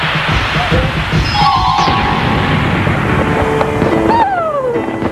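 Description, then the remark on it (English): Loud, continuous burst of explosive crashing and rumbling, with whistling tones sweeping up and down as fireworks-like missiles streak and detonate, packed densely with no pauses. “Witty fireworks for me?”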